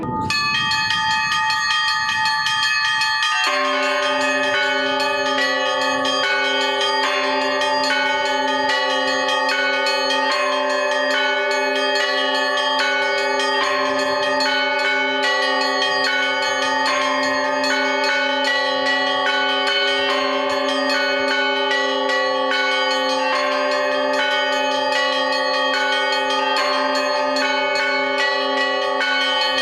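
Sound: church bells ringing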